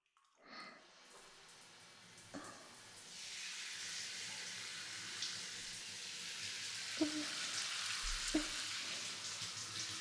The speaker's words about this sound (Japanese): ではそろそろシャワーで流していきましょうか。目に入ると痛いので、ちょっと目を閉じていてくださいね。では行きますよ。